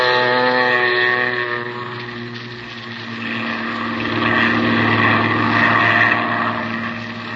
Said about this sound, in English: Then you wade out to the plane. And a few minutes later, you're skimming across the bay, headed toward the Gulf.